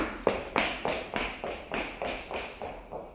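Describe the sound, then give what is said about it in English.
Quick, evenly spaced footfalls of someone running to a grandfather's house, about ten steps in three seconds, each a short, crisp thud at a steady, moderately loud pace with no talking. “Then I ran to my Zadie's house.”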